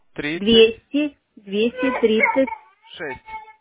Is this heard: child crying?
yes